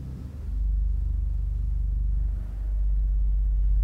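A deep, purring pipe organ pedal tone from the contraviolon stop holds steady and loud, rumbling low with a brief dip in the middle before sustaining again. No one speaks.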